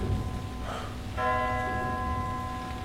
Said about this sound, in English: The clock hath stricken three.